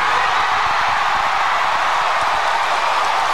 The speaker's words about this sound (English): Big cheer when he announced he's in remission.